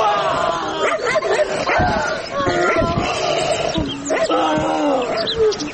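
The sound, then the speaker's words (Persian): A dangerous dog barks and yelps repeatedly in short, sharp bursts, loud, amid a busy jumble of other noise and raised human voices as people are called to come and tie it up. “او مردم، ای سگ از تیز بیاین بستهش کنین.”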